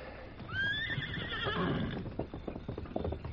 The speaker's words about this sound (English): That other horse is making too much noise.